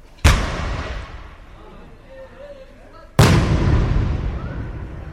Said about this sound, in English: That's where the Ramadan cannon sits. It's an old British cannon, and the blast can be heard everywhere on the Arab side of the city.